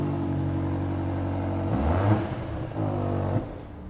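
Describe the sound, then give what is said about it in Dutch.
A hybrid car's combustion engine idles with a steady low harmonic drone, then revs up sharply around the midpoint, drops back, and blips again before settling, fairly loud with no talking. “En daarna neemt hij hem over atmosferisch. Het is een hybride.”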